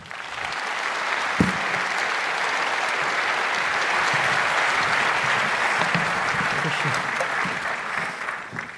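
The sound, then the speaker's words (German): Sustained audience applause for two speakers introduced before a talk, a steady dense wash of clapping hands that holds at an even, fairly loud level for several seconds before starting to taper at the end. “Bitte einen sehr herzlichen Applaus für die beiden.”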